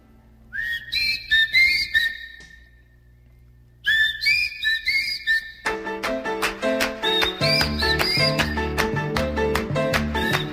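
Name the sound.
whistle being blown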